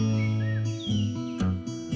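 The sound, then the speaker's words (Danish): Faint chirps and short tweets of tame birds flicker in the background over a steady, sustained low tonal drone; no one speaks. “Så tager jeg nogle fugle med. Ja. Piper lidt i baggrunden.”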